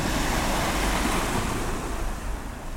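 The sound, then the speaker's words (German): Roaring Pacific Ocean surf churns steadily behind rugged black lava rocks, a loud, dense wash of breaking waves with a gusty, wind-buffeted rumble, easing slightly toward the end. No voices are heard. “Hinter schroffen Steinen tobt das Meer.”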